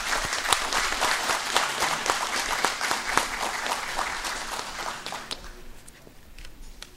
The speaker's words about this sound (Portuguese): Peço uma salva de palmas.